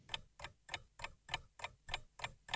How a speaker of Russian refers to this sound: А маленькие часики смеются, тик-так, ни о чем не жалей.